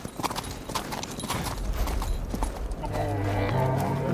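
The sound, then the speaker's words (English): Horse hooves clip-clop in a quick, steady rhythm of sharp knocks. In the final second or so, the hoofbeats give way to a low, humming tonal sound. “He'll stop in Agadir to water the horses and then carry on.”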